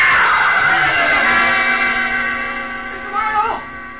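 A person lets out a long, loud, high-pitched scream that holds steady for several seconds, then wavers and rises in pitch before trailing off.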